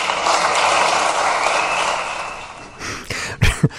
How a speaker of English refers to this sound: Who was applauding back there at the General Assembly?